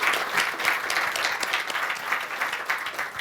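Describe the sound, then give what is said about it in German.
Steady audience applause after a talk, a dense crackle of many hands clapping continuously at an even, fairly loud level throughout, with no voices. “Dein Applaus.”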